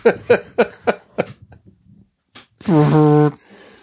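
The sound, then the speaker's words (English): Someone vocally imitates flatulence: a quick series of short, puffing voiced bursts, a brief pause, then one loud, sustained buzzy raspberry before trailing off. “It's a guy farting.”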